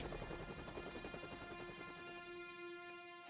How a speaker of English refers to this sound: we would probably not even be believed when we told anyone that Department of Homeland Security landed a Black Hawk helicopter in our residential area.